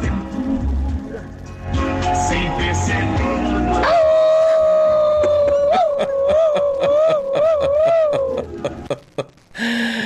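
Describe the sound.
A person howls like a dog, one long sustained wavering howl lasting several seconds, loud, following a stretch of busy noisy background; a caller howling during a call-in programme.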